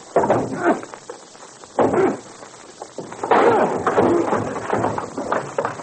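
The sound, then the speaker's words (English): A door on the top floor of a building is kicked in: a couple of heavy, booming thuds against wood, then a louder splintering crash, forceful, with some scuffling noise lingering afterward. “The door isn't open. We'll kick it in.”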